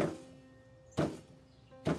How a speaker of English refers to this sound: the constant banging against his crib, the constant banging against the floor or a wall